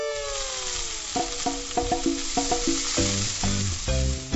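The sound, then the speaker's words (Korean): Steak sizzles in a frying pan, a steady crackling hiss that runs through the whole clip while a bright, stepping melody of tones plays over it. No one speaks. “왜 바삭한 스테이크가 좋은데?”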